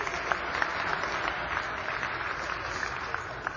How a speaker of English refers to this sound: What do you mean clapping?